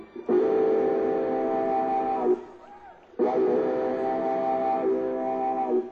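A pedal steel guitar mimics a train whistle with two long, loud, sustained chordal wails separated by a brief pause, clear with no voices.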